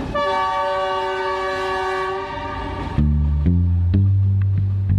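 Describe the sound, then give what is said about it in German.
A Chinese high-speed train in Laos sounds a loud, sustained horn for a few seconds, then gives way to a heavy low rumble and rhythmic clanks as it rushes past. “Denn für sie bleiben die Infrastrukturprojekte wie der chinesische Zug etwas aus einer anderen Welt, das in Hochgeschwindigkeit an ihnen vorbeirauscht.”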